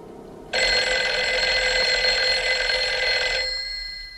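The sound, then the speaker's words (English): A telephone bell rings loudly in one sustained, metallic burst for about three seconds, then fades away. No one speaks. “They carry on staring at each other, ignoring the intrusive ringing. Then Evelyn turns to answer it.”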